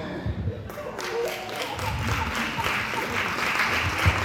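A church audience breaks into a steady round of applause for a preacher, dense overlapping claps building in the first second and holding at a fairly loud, even level throughout.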